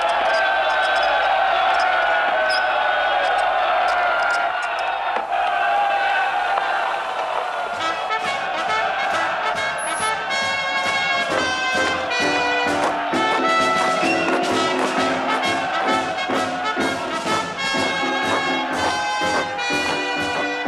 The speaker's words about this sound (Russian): Шаги. Это шагают союзники. Они прошли весь мир. Ничто не устояло перед ними.